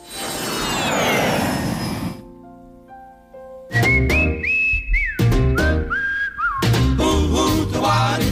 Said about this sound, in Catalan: hem descobert que el xiulet gomer no és una curiositat exòtica, sinó una lliçó poderosa, que mos recorda que les llengües neixen d'una necessitat, que el territori modela la manera de comunicar-nos